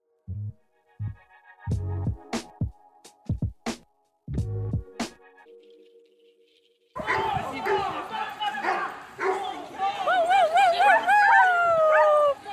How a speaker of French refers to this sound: Ce parc canin unique à Montréal a été créé dans le but de permettre un endroit où les chiens auraient le loisir de s'ébattre et socialiser sans laisse, et où les humains auraient aussi la chance d'y faire des rencontres sociales.